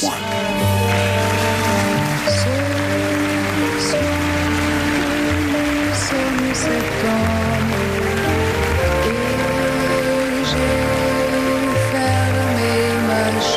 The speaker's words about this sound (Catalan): I ara, aquesta nit, jo us voldria demanar a tots una cosa senzilla però molt simbòlica. Que us poseu drets pels seus 70 anys i aplaudir-la amb mi.